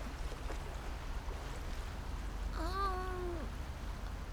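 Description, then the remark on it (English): Ocean waves wash steadily up a beach in a low, continuous rush, with a brief wavering cry rising over the surf partway through. No one speaks. “Now, slowly, follow along an invisible line from your big toe out over where the waves reach up the beach, beyond where they crest, and even further, out.”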